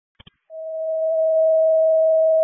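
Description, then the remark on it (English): Two quick clicks, then a single steady radio alert tone from a Crystal Lake Fire Rescue dispatch tone test rings out, swelling slightly and holding loud and unbroken for about two seconds, with no voices. “CCOM from Chris Lake Station 3, we did not receive any tones either.”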